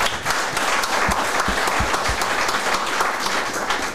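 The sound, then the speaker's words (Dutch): An audience of about 70 people in a hall applauds a guest steadily, dense overlapping claps forming a loud, continuous wash of sound with a few sharper individual claps standing out, no voices heard. “Alleen nog eventjes hallo gezegd en nu al een groot applaus.”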